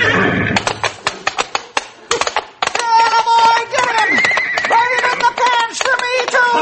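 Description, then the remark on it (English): A colt charging at a man whinnies loudly and at length, its wavering, high-pitched neigh rising and falling over several seconds, preceded by a quick run of sharp clip-clopping hoofbeats. “Look out for that horse, boss! He's coming for you!”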